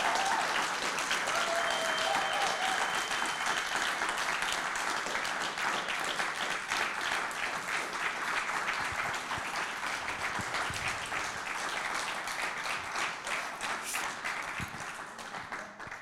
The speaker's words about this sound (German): Lasst uns mal all diesen Leuten einen Applaus geben.